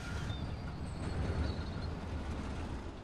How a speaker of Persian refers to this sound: تو هم صدای موتورشو میشنوی؟ آره. مثل خورناس و ناله است نه؟ دقیقاً.